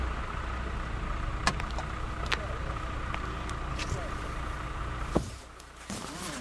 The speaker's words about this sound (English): Get in the car. We can talk while I drive into town.